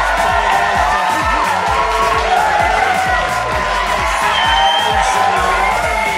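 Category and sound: crowd, warm applause and cheering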